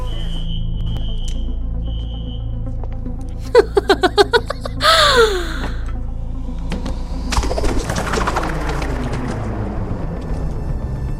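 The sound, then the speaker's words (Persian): Caged birds coo in a quick burst of short calls followed by a swooping call, over a steady low hum, with faint electronic beeps early on and scattered rustling afterward. “نمیتونم یه پرنده یه تو قفس باشم.”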